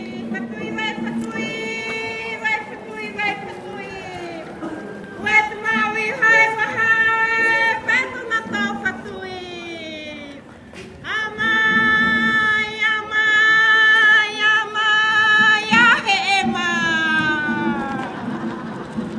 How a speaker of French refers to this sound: Nous venons d'entendre donc ce qu'on appelle ici localement le hahi. Le hahi, le mavé, c'est un cri de bienvenue pour annoncer donc aux étrangers ce qu'on appelle localement le manihi. Voilà, mavé mai, c'est bienvenue, bienvenue à vous.